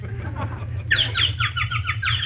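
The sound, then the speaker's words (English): A quick run of high, bright bird chirps, about seven or eight in a rapid rhythmic series, heard over a steady low hum after a brief murmur of background sound. “Ah, listen to the birdies.”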